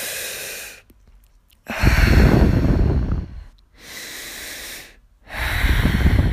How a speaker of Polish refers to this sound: Natomiast teraz, właśnie gdy jestem zła, biorę 10 głębokich oddechów i to jest takie narzędzie potężne, uwielbiam je. Robię po prostu potężny wdech.